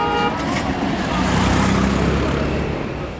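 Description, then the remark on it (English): Dense road traffic in India roars steadily on the roads leaving the airport, with engines rumbling and a car horn tooting in the midst of the din; a faint voice or two is buried in the noise. “The roads are total mayhem. Drivers ignore lane markings.”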